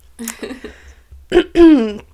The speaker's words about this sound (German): Das Räuspern gehört dazu, um die Spannung zu increasen, einfach so.